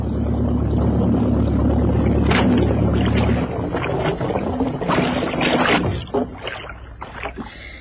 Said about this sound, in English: Okay, I'm going to cut the motor now.